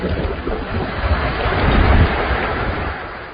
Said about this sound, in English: Up this mountain, there's debris. Listen to that roar. This is a violent tornado. Debris falling.